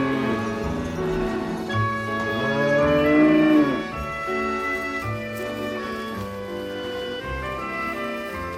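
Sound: cows mooing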